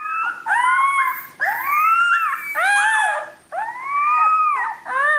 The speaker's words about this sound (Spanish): Cuéntame, ¿qué es esto? Pues estos son Rómulo y Remo, son dos lobos gigantes resucitados.